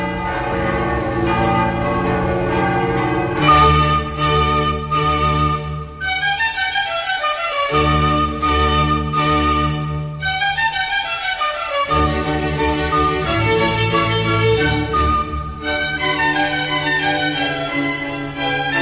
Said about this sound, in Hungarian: Megszólaltak a Mária Maggiore Bazilika harangjai.